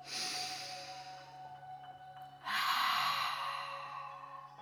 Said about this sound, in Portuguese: Faça uma respiração profunda, soltando o ar pela boca.